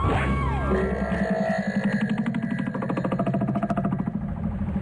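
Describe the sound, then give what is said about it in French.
A car with people inside runs steadily on a road between the National 7 and the A3 motorway, starting as a low smooth hum and settling into a fast, even chugging pulse, loud and alone with no voices. “Il était une fois, sur une route perdue entre le National 7 et l'autoroute A3, une voiture avec des gens dedans.”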